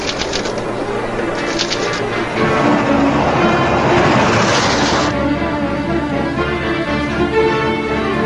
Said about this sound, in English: This train is really going. The engineer must be late for dinner. The way he's traveling, he hasn't eaten all week.